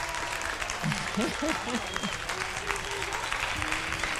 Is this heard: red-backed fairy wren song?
no